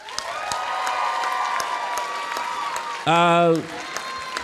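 A crowd applauds steadily with sharp individual claps standing out, over high sustained cheering tones, then one loud, brief shout of cheering bursts in near the end before the clapping carries on.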